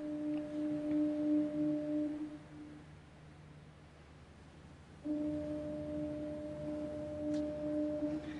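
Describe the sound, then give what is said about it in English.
A deep foghorn blares steadily for about two seconds, falls silent against a low ambient rumble, then sounds again with the same sustained tone, repeating in a slow rhythm as a warning in thick white fog rolling in off the ocean. “And sometimes, like in this video, you could barely see forever peeking out of the shifting fog, accompanied only by the rhythmic warning sounds of foghorns.”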